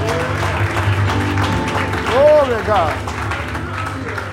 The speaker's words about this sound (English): And so with that in mind, can we all just give the Lord a hand clap of praise? Glory. Hallelujah.